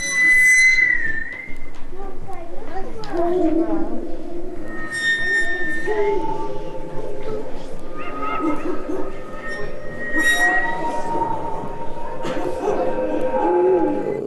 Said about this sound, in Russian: И там же пила у вас, по-моему, да, есть. Пила звучит. Тот не музыкальный инструмент, который запел.